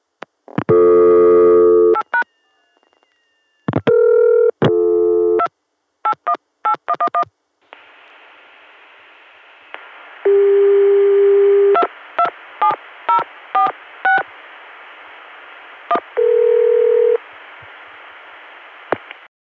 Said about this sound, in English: This is Windsor Locks 227, dialed on a Connecticut dial tone, gotten through 281, Richmond.